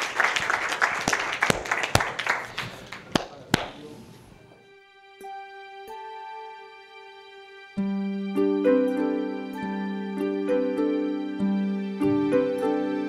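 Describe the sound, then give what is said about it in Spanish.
An audience breaks into dense applause for a woman whose phobia has just been treated, clapping for about four seconds with a few sharp claps standing out, before it dies away and sustained melodic music takes over. “Un aplauso para ella.”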